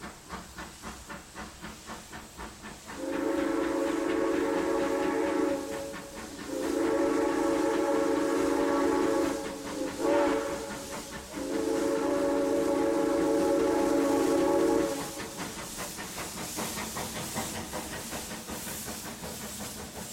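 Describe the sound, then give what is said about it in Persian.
A steam train starts to move in Italy, pulling away with several long, loud whistle blasts over a steady hiss of steam, then the whistle stops and the hissing rumble carries on alone. “قطار راه افتاد و دیگه توی خاک ایتالیا داشت حرکت میکرد.”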